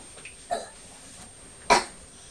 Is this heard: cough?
yes